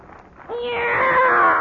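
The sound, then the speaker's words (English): A single long, drawn-out cat meow, fairly loud, starting after a brief quiet pause and holding steady with a slight rise in pitch until the end. “It's a cat, Miss Brooks.”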